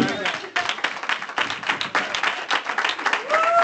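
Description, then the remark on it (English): An audience claps their hands together, a dense, steady wash of many overlapping claps sustained for several seconds at an even loudness, with a faint tone drifting in near the end. “Clap your hands.”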